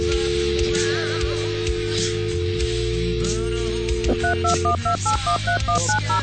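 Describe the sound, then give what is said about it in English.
Telephone keypad DTMF tones beep in a quick, irregular run toward the end, layered over a steady electronic hum and busy synthesized backing; no voices are heard. “the phone just screwed up too. Press 1.”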